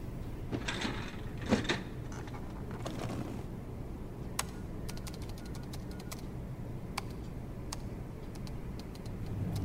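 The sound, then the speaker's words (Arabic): A metal filing cabinet drawer slides open with a rough scrape, followed by a scattered run of sharp clicks and taps, like rummaging or keys pressed, against a low background hum, as someone quickly looks through the file drawer while another checks a computer. “شيك على الكمبيوتر وأنا بشوف درج الملفات بسرعة.”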